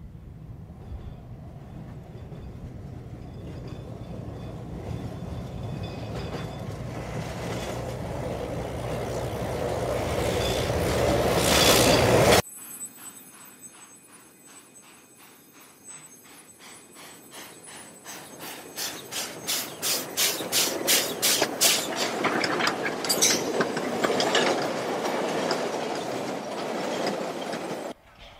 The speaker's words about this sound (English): A diesel rail bus and a flat car is often seen carrying drinking water into the pit for the workers.